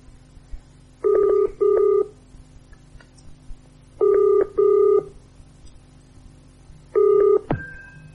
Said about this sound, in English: I tell you what. Let me get Mr. Bainbridge of Lipson and Browning on the phone. We can probably clear this whole thing up in a few seconds.